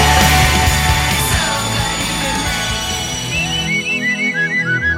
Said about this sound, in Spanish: Qué poco me gusta este sonido. Este silbido dice, significa agito el pañuelo desde el andén de la diosa. Es un poco Twin Peaks este.